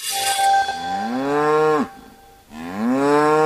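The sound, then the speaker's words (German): A cow moos loudly twice: a long, drawn-out low call that rises then drops off, a brief pause, then a second moo starting. No one speaks. “Eine echte Kuh braucht Hörner.”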